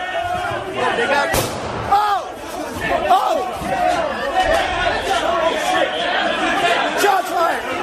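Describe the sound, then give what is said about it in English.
A plainclothes officer fires a single sharp gunshot that cracks out early over a dense, agitated crowd of rioters whose shouting and overlapping voices continue loudly throughout. “But as that plainclothes officer shoots, there is a civil disturbance unit of officers armed directly behind him.”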